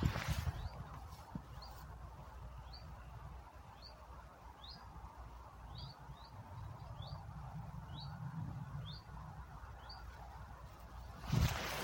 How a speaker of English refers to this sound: We're just walking back now along the tarmac path at the other edge of Thorns Common. I can hear a bird in the trees. Hopefully I'll be able to record the sound.